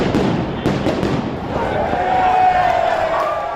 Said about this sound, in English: The police have defended their use of flashbangs, pepper spray and rubber bullets to disperse the angry crowd of counter-protesters who police say were attempting to break through the barricades.